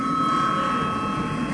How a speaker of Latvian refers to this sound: Kolēģi, ir pienācis laiks pārtraukumam. Lūdzu zvanu.